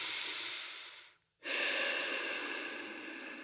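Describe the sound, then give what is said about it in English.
A loud breath drawn in for about a second, a brief pause, then a long airy exhale, with no talking. “And we are here, and we are present, and we are breathing in.”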